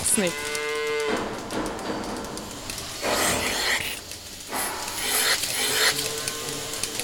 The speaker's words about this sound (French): On vient de faire monter les vaches dans la salle de traite.